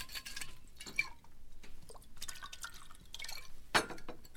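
Alcohol splashes and trickles into a glass in short, uneven bursts, with a few clinks and drips, fairly quiet and with no one talking.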